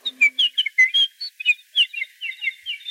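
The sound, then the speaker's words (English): Birds chirp and whistle in a quick, busy series of bright high notes, clear, with no voices present. “Look, the birds remember my sons.”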